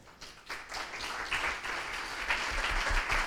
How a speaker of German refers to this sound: Noch einmal ganz großen Applaus für den Anselm.